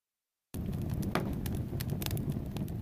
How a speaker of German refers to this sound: Okay, dann mache ich jetzt das Kaminfeuer an.